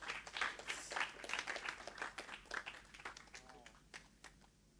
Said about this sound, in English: Let's give the Lord a super hand clap.